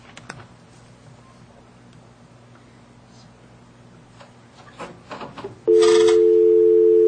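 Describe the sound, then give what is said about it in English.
A telephone being dialed upside down to call back: soft scattered clicks and button taps over a low hum, then a loud, steady electronic phone tone sounds abruptly and holds to the end. “You can't just do it, redial on this thing. Well, it's hard enough to dial upside down.”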